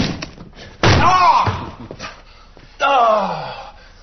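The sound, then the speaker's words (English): Someone kicks a locked chest of drawers: two heavy wooden bangs about two seconds apart, each followed by a short strained vocal cry. “Well, open the chest of drawers! It's locked! Kick it to death!”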